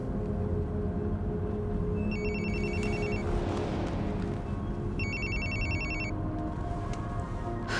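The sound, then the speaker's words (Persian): A telephone rings in two bursts, each a high, rapid trilling ring lasting about a second, separated by a pause, over a steady background of low rumbling noise. “چرا به هم زنگ زدی؟”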